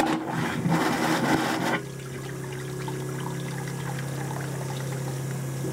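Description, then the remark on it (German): A vacuum toilet, of the kind builders in Knittlingen can install in their bathrooms instead of water-flush toilets, flushes with a loud, rushing whoosh lasting under two seconds as wastewater is sucked away rather than flushed. It then cuts off abruptly to a steady mechanical hum from a pump. No one speaks. “Denn die Bauherren in Knittlingen können statt Wasserklosetts Vakuumtoiletten in ihre Bäder einbauen.”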